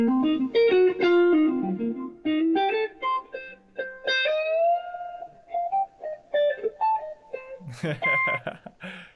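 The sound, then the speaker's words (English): A run of picked electric guitar notes, some picked hard and ringing out long, washed in reverb, others picked softer, shorter and drier with less reverb, ending in a brighter, noisier strum. “So like I pick one note really a lot reverb and other notes pick softer. It's so almost less reverb.”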